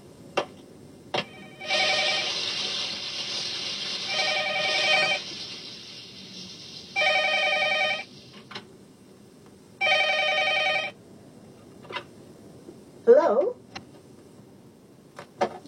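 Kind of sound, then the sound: signal or alarm, telephone ringing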